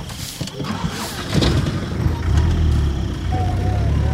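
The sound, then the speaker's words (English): A battered old truck's engine in Bili rumbles low and grows fuller after a second, then holds a steady, throaty drone as the vehicle pulls off, with faint mechanical rattle on top. “We drive away in a battered truck, past solemn-eyed children and wary parents.”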